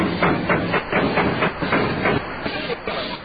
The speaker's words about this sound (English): There's something wrong with the engine. It can't be. I had a mechanic fix it more than this morning. There it is again.